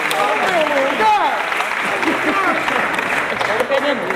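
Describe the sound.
An audience claps steadily in a dense, continuous wash of applause, with voices calling out and chattering over it throughout.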